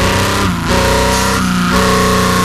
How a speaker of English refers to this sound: It's London buses.